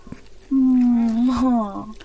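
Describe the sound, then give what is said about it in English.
A dog whimpers in one long, drawn-out whine lasting over a second, its pitch wavering slightly before it trails off, fairly loud. “Listen, she's whimpering.”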